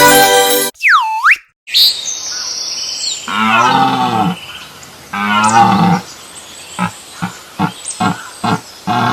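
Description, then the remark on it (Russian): A few bright electronic chirps give way to a deer bellowing twice in long, loud, moaning calls, then a quick run of short grunting calls, with no talking. “Замечательно, ты справился. Это олень.”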